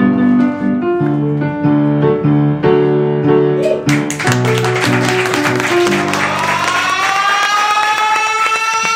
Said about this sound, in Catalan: Fort aplaudiment per ella